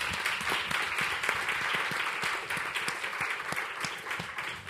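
A crowd applauds steadily, many hands clapping in a dense, continuous patter at moderate volume, sounding like a room full of people clapping together for several seconds.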